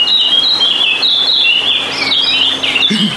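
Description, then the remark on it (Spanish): Birds sing and chirp continuously in high, warbling overlapping calls, fairly loud, with a steady wash of chatter throughout and no voices. “¡Ay, pero los pájaros! ¡Pobrecitos los pájaros!”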